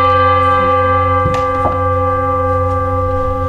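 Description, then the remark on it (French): A deep gong hums steadily, its rich metallic overtones ringing on without fading, with a couple of faint knocks partway through as the resonance carries on alone. “Il y a un maître Dogen, il l'explique exactement, il dit c'est comme un coup de gong.”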